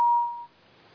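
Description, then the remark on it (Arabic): A single steady electronic tone around one pitch, clear, holding for about half a second before cutting off as a caller's phone line drops during a call-in programme. No one speaks. “طيب توكلنا على الانقطاع. اللي اتصل انقطاع.”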